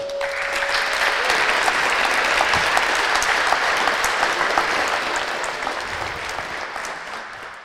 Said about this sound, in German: Bitte begrüßt sie mit einem großen Applaus.